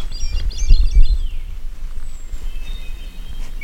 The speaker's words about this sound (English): However, only male hermit thrushes can sing and they're quite territorial. The mimicking phone is threatening the resident male of the area. The team is hoping to lure out the songbird to defend its territory from the invading cell phone.